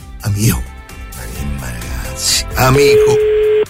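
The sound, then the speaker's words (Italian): A steady telephone ringing tone of an outgoing call, one long beep lasting about a second, comes in near the end while a voice keeps talking over it. “C'ho un minuto di tempo per far dire la parola amico alla persona che adesso risponderà al telefono.”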